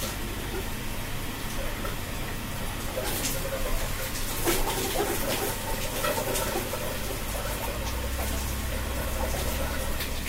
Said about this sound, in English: For my other sonic wallpaper idea, I put jam jars in the bottom of my shower so that when I was in it, the sound of the water hitting the top of the jars distracted me from the fan noise.